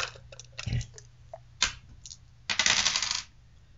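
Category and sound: dice being rolled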